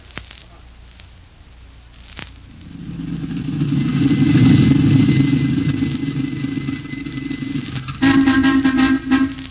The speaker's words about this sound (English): Shut off the engine.